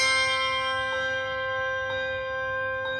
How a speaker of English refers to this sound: Handbells. Yep, the kind you hear around the holiday season.